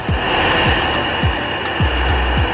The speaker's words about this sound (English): Boiling some water.